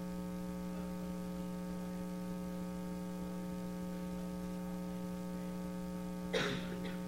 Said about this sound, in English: Unfortunately, somebody coughed at the crucial moment.